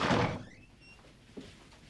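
cell door being opened

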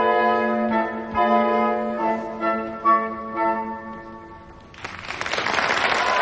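theatre audience applause

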